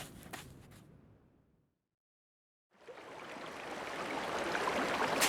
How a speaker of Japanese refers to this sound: 川だ。本物の川だよ。 これは驚いた。ロプノールに注ぐ川かな。